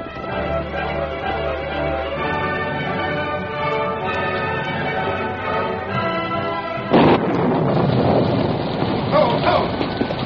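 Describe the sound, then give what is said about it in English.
A storm rages with a steady, moaning howl of wind, then a sudden loud crash bursts in around seven seconds and dense, hissing rain fills the rest. No one speaks. “The storm broke in all its fury as Bob reined up in front of his home”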